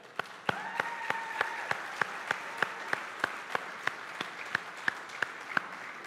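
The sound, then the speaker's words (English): An audience applauds to thank the team looking after the children, a steady wash of many hands clapping with sharp, evenly spaced claps standing out on top, sustained at moderate loudness throughout. “And so they probably can't hear us, but can we try to let them hear us by just giving them our thanks and gratitude for watching our kids?”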